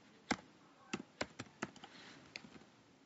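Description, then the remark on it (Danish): Someone types the word "bibliotek" as a keyword on a computer keyboard, about eight or nine quick, irregular key clicks, fairly quiet, with no talking. “Jeg kan for eksempel skrive bibliotek.”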